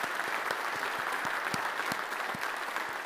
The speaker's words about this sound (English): Okay, can I just say well done? That was really, really good. Can we give them another clap? I didn't get clapping yet.